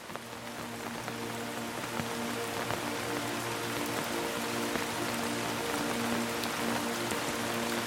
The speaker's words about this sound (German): Es ist früher Abend und ein sanfter Regen fällt auf die Dächer der Stadt.